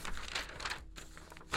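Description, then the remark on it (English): Paper crinkles and rustles as it is handled, a few soft, irregular crackling bursts over about a second and a half, with a brief pause before a final louder crinkle. “It says this on this paper.”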